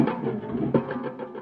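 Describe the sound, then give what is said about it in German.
A noise-making instrument called the Gurgler gives off a steady, moderately loud gurgling rattle with a loose, repeating pulse, like a slow train clattering over rails. No voices. “Der Gurgler. Könnte ein langsamer Zug sein, der über die Schienen rattert.”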